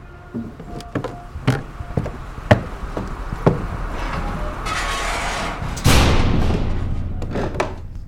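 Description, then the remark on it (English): A heavy sidewalk cellar door leading under a restaurant creaks and swings shut with a deep, resonant thud, preceded by a series of sharp wooden knocks and rattles, with a lingering low rumble. “Close the door behind you if you don't mind.”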